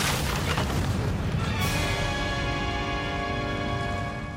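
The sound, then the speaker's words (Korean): A deep, rumbling blast from a grenade explosion after the grenade lands in a storehouse of potatoes and corn, followed by a sustained roar and ringing debris noise that stays loud throughout, with no voices present. “감자, 강냉이를 모아놓은 저장고에 떨어졌고 폭발과 함께 하늘에서 옥수수 강냉이가 튀겨진 팝콘이 눈꽃처럼 떨어집니다.”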